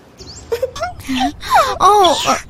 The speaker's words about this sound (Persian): چی شده عزیزم؟ چی شده؟ چی شده؟ من ده دقیقه از دارم اینجا گریه میکنم به امید اینکه یکی بیاد بغلم کنه و دلداریم بده.